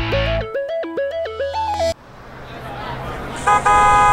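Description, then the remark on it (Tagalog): An arriving jeepney's horn plays a loud, stepped multi-note tune for about two seconds, then its rumbling engine roars up before a steady honk blares at the end. “Tara na! Yan na yung jeep!”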